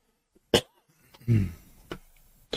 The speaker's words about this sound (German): Oh, du Armer, lass die Zunge drin, wenn du jetzt hustest.